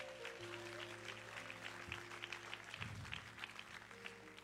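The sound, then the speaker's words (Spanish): An audience claps for the Lord at night in a dense, continuous wash of applause, with sustained low keyboard tones humming beneath it throughout. “¿Puedes dar un aplauso al Señor en esta noche?”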